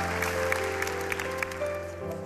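Church audience applause, a steady wash of clapping with a few sharper claps, under sustained keyboard chords that shift to a new chord near the end. No one speaks.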